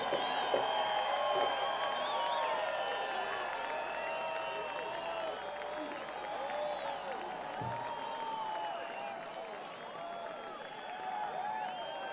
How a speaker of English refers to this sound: applause, everybody.